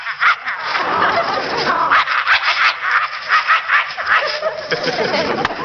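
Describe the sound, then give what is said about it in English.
A man imitates a vicious dog with harsh, continuous snarling and growling, broken by rapid throaty bursts, loud for several seconds with no other talk. “A suspicious dog like this. Or a vicious dog like this.”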